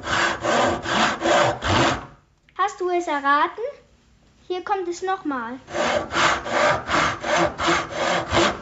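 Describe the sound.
A hand saw cuts through wood in quick, steady back-and-forth strokes, rasping and loud. A short spoken passage interrupts, then the rhythmic sawing resumes.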